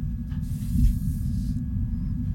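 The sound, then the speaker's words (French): Martian wind captured by a rover microphone: a dense, steady low rumble that swells slightly partway through, with a faint airy hiss drifting over it for about a second. No voices. “3 minutes tous les 2 jours, il enregistre des sons de la planète rouge et il capte surtout du vent.”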